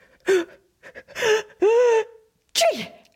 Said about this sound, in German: Dann musste er plötzlich niesen.